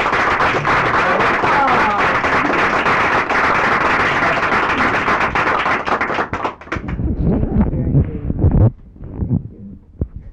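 An audience breaks into loud, dense applause for a host and hostess celebrating their silver anniversary, many hands clapping steadily for several seconds before it thins out into scattered claps and low murmuring voices.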